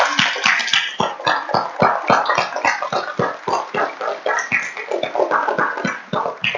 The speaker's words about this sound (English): you're going to have to clap loud because there's only four or five of us. Ready? So help me stand up, and let's give those fathers a round of applause. Ready? Woo!